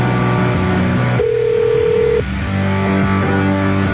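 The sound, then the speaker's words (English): A telephone rings with steady, buzzy electronic tones as a call is placed to an office one studio down, broken by a single clear beep partway through, then the ringing continues. It is fairly loud, with no one talking. “Probably ignoring the phone.”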